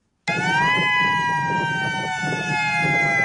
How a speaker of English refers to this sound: Starting in December, Hawaii will be testing its attack warning siren for the first time since the Cold War in the 1980s. The state is adding the signal to its monthly attention alert test, which warns people of an incoming tsunami or hurricane.